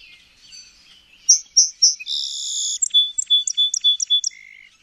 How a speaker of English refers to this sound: And the song sparrow is track 17.